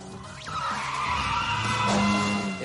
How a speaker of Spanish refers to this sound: No es la típica película en la que el coche derrapa al doblar una esquina y no se golpea contra nada. No, aquí el coche derrapa e impacta contra algo. Y cuando la persecución acaba, el coche está completamente abollado.